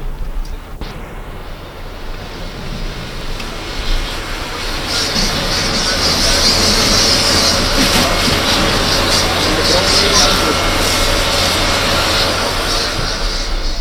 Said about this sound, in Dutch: Ja, dat geluid is het geluid van het blussen der barricade, van de brandende barricade. Althans, het smeulende spul wat de witte rookontwikkeling met zich meebrengt en het rondvliegend as.